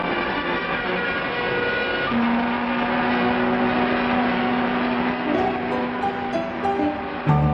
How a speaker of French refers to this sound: Escorté de dizaines de bateaux, salué par les sirènes de tous les navires, survolé par des hélicoptères, au milieu des gerbes d'eau des bateaux-pompes, France poursuit sa marche triomphale vers son quai d'accostage.